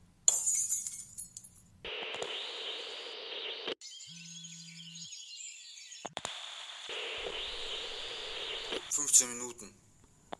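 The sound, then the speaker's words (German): Glass shatters with a sharp, bright crash right at the start, scattering tinkling fragments, followed by a stretch of odd electronic-sounding noise, a brief low hum and twittering chirps near the end. “hören zuerst das Geräusch von zersplitterndem Glas, dann ein brummendes Vogelzwitschern”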